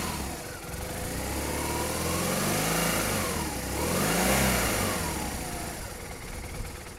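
police motorcycle engine revving

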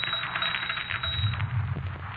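typewriter typing

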